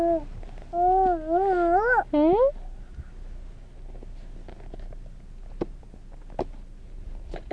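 A cat meows several times in quick succession, drawn-out wavering cries. Then it falls quiet, leaving soft background noise and a few faint clicks and taps.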